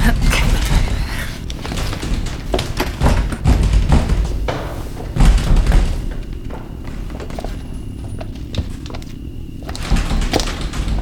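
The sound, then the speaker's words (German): Someone bangs on the locked door of a room in a house, a long run of heavy, irregular thuds and knocks, loud, continuing throughout and easing slightly toward the end. “Die Tür! Da!”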